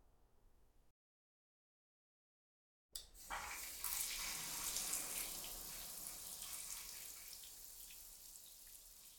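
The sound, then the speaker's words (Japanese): After a brief pause of silence, a shower starts and runs steadily, a full hiss of water spraying and splashing that continues to the end with no voices. “シャワーを浴びてきました。”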